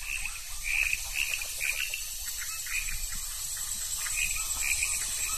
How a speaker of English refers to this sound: And we can hear in the background a frog. My guess is that this is a poison arrow frog. It's a solitary guy. It's a very unique call.